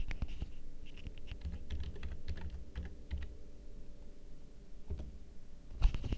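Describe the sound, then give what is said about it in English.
Rapid typing of a search keyword on a computer keyboard to search for streams: a quick irregular run of clicky keystrokes, thinning out near the end with a final sharper tap; no talking. “We can also search for streams here by typing in a keyword, for instance.”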